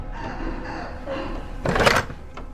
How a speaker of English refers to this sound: very slowly reaches for the door handle and turns it.